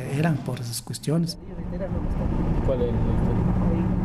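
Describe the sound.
A car drives from Riobamba toward the indigenous village of Puchiguayavin with a steady, continuous engine and road rumble. A voice speaks briefly at the start before the droning motor noise carries on alone.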